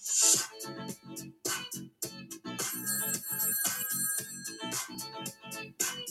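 telephone ringing

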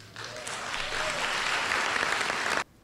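applause

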